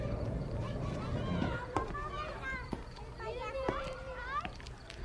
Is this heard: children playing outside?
yes